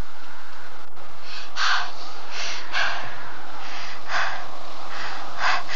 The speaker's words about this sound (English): Don't breathe so loudly. He will hear you.